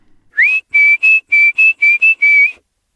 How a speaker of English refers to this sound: And when he ran away, Harold would go to the back door and call him in with a little whistle.